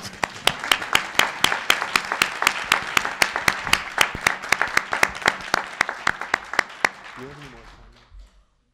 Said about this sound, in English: Thank you, and now you can applaud.